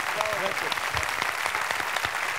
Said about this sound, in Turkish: Tekrar ben ayakta alkışlıyorum seni. Bravo. Vallahi.